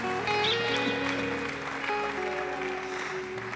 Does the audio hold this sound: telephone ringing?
no